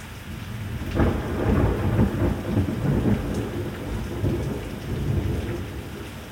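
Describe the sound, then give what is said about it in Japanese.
A thunderstorm with the centre of the rain cloud overhead: steady, heavy rain hisses throughout while deep rolls of thunder rumble repeatedly and loudly, with no voices. “頭の上まで雨雲の中心が来たようだ。上から来るぞ、気をつけろ。”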